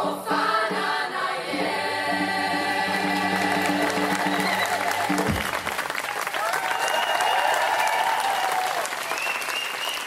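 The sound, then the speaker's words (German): The Gospel choir St. Afra from Meißen holds a final sustained chord as clapping breaks out, then steady, loud applause for the choir fills the rest, with scattered cheers and voices rising through it. “Applaus für den Gospelchor St. Afra aus Meißen, unseren Chor der Woche.”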